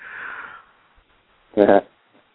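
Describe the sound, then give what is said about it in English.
A human yawn: a long breathy inhale, a brief pause, then a short, loud voiced groan with a wavering tone before it trails off. “Pardon me, I was yawning.”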